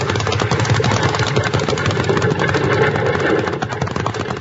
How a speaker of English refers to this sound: that runaway team darn near got us. That was no runaway, Jingles. That man was driving those horses.